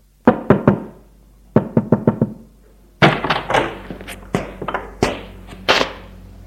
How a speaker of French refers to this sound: Hubert monte au premier. Frappe à une porte.